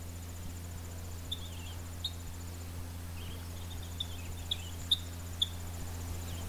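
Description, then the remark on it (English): Short, sharp kip calls of a purple finch in a bog above Grand Marais sound off irregularly, a handful of quiet chirps over a steady low hum and a faint, continuous insect-like trill. “That little kip, kip, kip sound, that's the purple finch.”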